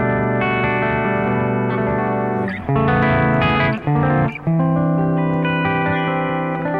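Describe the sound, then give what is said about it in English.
Clean, chimey electric guitar chords from a humbucker pickup ring out on their own, sustained and full, with a few strummed chord changes midway and a light shimmering chorus-like sheen. “So it has it's got a nice clean humbucker sound. It's definitely a humbucker.”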